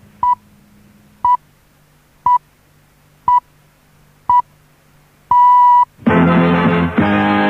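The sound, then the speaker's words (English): BBC time signal pips at 8 o'clock: five short, evenly spaced high beeps one second apart, then a longer sixth pip marking the hour, followed immediately by louder broadcast audio. “Well, it's 8 o'clock. Here come the birthday pips.”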